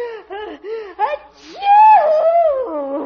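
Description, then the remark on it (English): A theatrical, voiced sneeze: several short rising gasps build up, a quick breathy intake follows, then a long, loud, wavering cry that slowly falls in pitch. “Gesundheit.”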